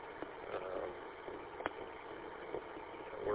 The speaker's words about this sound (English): Sorry about the air conditioner.